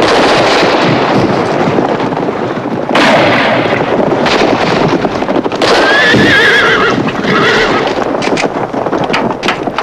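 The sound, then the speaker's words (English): Loud, chaotic neighing and shrill whinnies of rearing horses, ridden by bandits back and forth past a cantina, rise over a constant clatter of hooves, with sharp bangs like gunfire mixed into the dense commotion. No one speaks. “Although many are killed in a frenzied scene of rearing horses, falling riders, and disorganized mayhem, even more seem to appear.”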